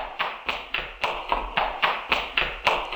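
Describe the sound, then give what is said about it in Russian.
Horseshoes of a trotting horse named Veterok, carrying a rider in the saddle, clopping in a steady, even rhythm, about eleven sharp, hollow knocks in quick succession at moderate loudness, with no voices. “«Дядя Кузя, чего ветерок так топает?» «Это цокают подковы.”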